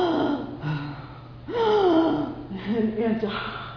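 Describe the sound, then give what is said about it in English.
A voice imitates the heavy, labored breathing of a man in his early 80s just released from hospital: several drawn-out, rasping gasps in a slow, uneven rhythm, fairly loud, with strained vocal tones riding on each breath. “I still remember, you know, coming to the house and seeing my dad, and you know, he's breathing heavily like that.”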